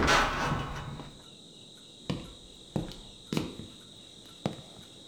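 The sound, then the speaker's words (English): A front door swings open with a soft rushing noise, followed by four sharp wooden clunks spaced unevenly, while crickets chirp steadily in the background. No one speaks. “Open the door!”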